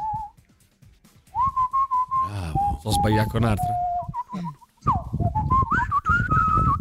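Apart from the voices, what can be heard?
person whistling a tune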